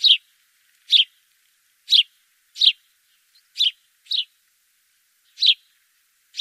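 A sparrow chirps repeatedly in short, bright bursts, about eight chirps spaced irregularly across several seconds, clear against a silent background with no talking.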